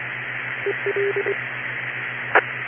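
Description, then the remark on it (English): A quick run of about five short touch-tone beeps, an EchoLink connection code, sounds over a steady hum and hiss of radio noise, followed a moment later by a brief burst. “Okay, coming in on EchoLink. I heard the code for that.”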